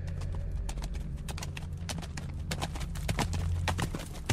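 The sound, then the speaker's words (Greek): Steady clip-clopping of a white horse's hooves, its rider holding a bow, striking a hard surface in a quick repeating rhythm over a low rumbling background; the horse may whinny briefly. “Κοίταξα και είδα ένα άσπρο άλογο που ο καβαλάρης του κρατούσε ένα τόξο.”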